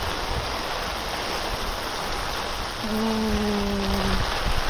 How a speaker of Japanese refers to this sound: うわー、ここもすごい水が溜まってる。遊歩道が川みたいになってるよ。いや、もともとここね、あの下が川なんですよ。あの暗渠になってるの。川の上に川が流れてる感じかな。いや、ここなんか完全にもう溢れてるじゃん。